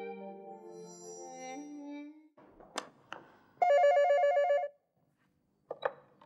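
A telephone rings with one steady, electronic buzzing burst lasting about a second, fairly loud, preceded by softer tonal sounds and a few sharp clicks.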